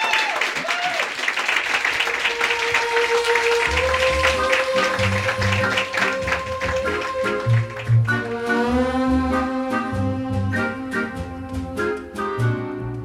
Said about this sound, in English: But before you do that, let's thank our storytellers from tonight one more time. Big round of applause. Thank you all.